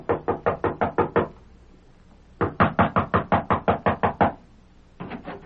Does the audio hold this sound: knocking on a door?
yes